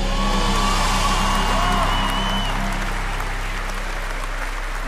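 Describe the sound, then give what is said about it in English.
A crowd applauds loudly and steadily, with scattered whoops and shouts rising above the clapping throughout, the noise holding strong before easing slightly toward the end. “A cheer.”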